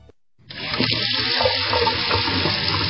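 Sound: water running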